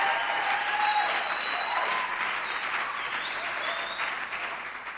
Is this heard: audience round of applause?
yes